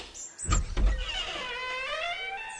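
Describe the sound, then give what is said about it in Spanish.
Two dull thuds as a mail carrier bringing an urgent telegram knocks at the front door, followed by a long, wavering, high-pitched creak as the door swings open. No voices. “Fíjate que llaman en la puerta.”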